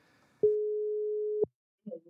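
A single steady ringback tone, about one second long, sounds clearly as a phone call is placed, with faint voices just before and a brief voice afterward.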